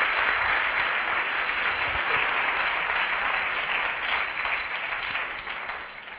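Sustained audience applause fills the whole stretch, a dense crowd clapping steadily at close range, tapering slightly toward the end with no voices on top.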